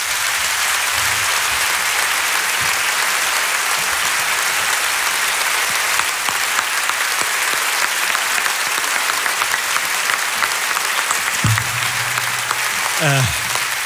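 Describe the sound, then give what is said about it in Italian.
Sustained, loud applause from an audience welcoming a guest onto a show, a dense steady clatter of many hands clapping without pause for the whole stretch, with a few faint tonal sounds near the end. “Lui non è di famiglia italo-americana, ma è simpaticissimo e ci fa proviene da famiglia tedesca e danese, ma ci fa piacere invitarlo lo stesso, e lo accogliamo con un grandissimo applauso,”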